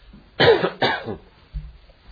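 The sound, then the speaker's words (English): Two harsh coughs in quick succession, followed a moment later by a low, brief throat-clearing rumble. No one speaks. “And I hope I don't cough too much tonight.”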